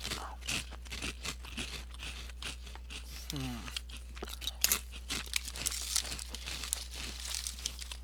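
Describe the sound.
Loud crunching and crinkling as potato chips from a bag are bitten and chewed, with rapid irregular snaps and bag rustling throughout, plus a brief voice partway through.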